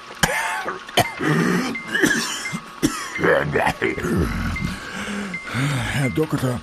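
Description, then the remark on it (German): Several sharp coughs burst out at irregular intervals, mixed with throaty clearing and strained vocal sounds, with a voice talking between them. “Helfen Sie mir gegen diesen furchtbaren Husten.”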